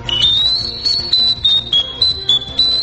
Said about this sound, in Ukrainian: У народі цей інструмент, зроблений з глини, більш відомий як окарина.